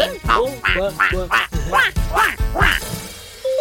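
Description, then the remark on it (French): Several voices imitate duck quacks during a children's duck dance, a quick, bouncy series of about eight loud, nasal "quack" calls, rhythmic, followed by a brief steady tone at the end. “Les enfants, chez vous, en fonction de votre espace, vous pouvez faire le canard soit en avançant, soit en faisant du surplace.”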